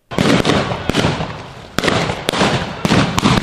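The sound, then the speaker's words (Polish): A loud, continuous barrage of rapid gunfire pops and cracks from long guns and machine guns at a Greater Poland Uprising battle reenactment in Witkowo, Poland, with sharper isolated shots standing out from a dense crackling roar. No one speaks. “Wymiana ognia zarówno z broni długiej, jak i broni maszynowej.”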